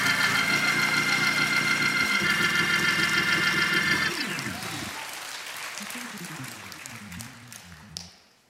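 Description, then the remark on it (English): A church audience claps steadily, giving the Lord a hand clap, over sustained organ-like chords, then the applause thins as gliding keyboard notes continue, ending with a few scattered claps. “Come on, if you believe that, give the Lord a hand clap for 30 seconds.”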